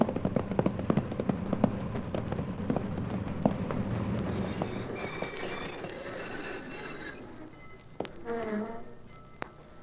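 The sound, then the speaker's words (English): Hooves of a ridden horse clip-clop in a quick, uneven patter, fading out partway through, followed by a brief voiced sound near the end. “down off that horse and let's go.”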